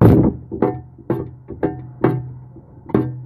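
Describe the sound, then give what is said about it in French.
A microphone is banged like a hammer, giving about seven dull, boomy thuds at uneven intervals, each with a short ringing decay. No one speaks. “Je peux prendre le micro que Dieu a prédestiné à porter ma voix et je m'en sers comme marteau.”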